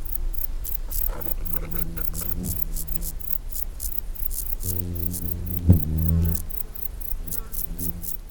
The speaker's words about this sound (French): Bah, qu'est-ce qui se passe ? On entendrait une mouche voler ?